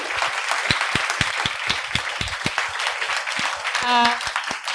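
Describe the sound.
A crowd applauds with loud, dense, steady clapping that runs the whole length, some sharp individual claps standing out, and a short voiced whoop rises above it near the end.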